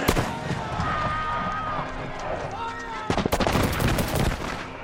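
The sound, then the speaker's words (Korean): Agitated crowd noise and raised voices of colonists clashing with British guards give way to a ragged volley of loud, sharp gunshots fired by the soldiers, several cracks in quick, irregular succession over the commotion, in a film scene of the 1770 Boston Massacre. “이 과정에서 군인들이 총을 쏘고, 군인들이 쏜 총에 보스턴 시민 5명이 목숨을 잃는다.”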